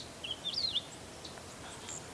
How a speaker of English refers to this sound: That finch actually was making that little warble song, but those two little snippets are all we're going to hear because he flew away also.